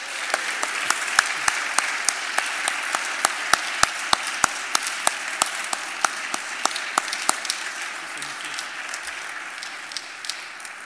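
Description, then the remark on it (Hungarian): Sustained audience applause for the stage and sound crew, a dense, steady wash of many hands clapping with sharp individual claps standing out, holding an even loudness throughout, with no one speaking over it. “Én azt gondolom, hogy most van az a momentum, amikor azért egy nagy tapsot ők is hat kapjanak.”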